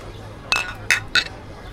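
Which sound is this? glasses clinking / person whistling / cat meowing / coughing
glasses clinking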